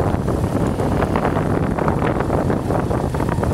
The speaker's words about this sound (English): My friend's motorcycle, actually his borrowed motorcycle. he stole it.